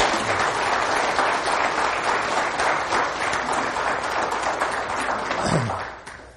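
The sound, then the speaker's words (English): A crowd gives a round of applause to affirm a man, many hands clapping in a dense, sustained wash of sound that holds for several seconds before tapering off at the end. “Let's just give him a round of applause to affirm him this morning.”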